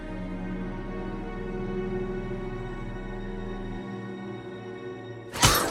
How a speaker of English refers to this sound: She smashes the photo with her left fist.